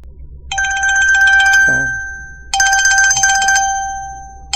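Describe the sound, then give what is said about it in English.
A dark 1950s-style dial telephone, standing on a Roman pedestal in fog, rings harshly in two loud, rattling bursts, each about a second long, separated by a short pause, with no one speaking. “There, on a Roman pedestal, sat a dark 1950-ish dial phone ringing harshly.”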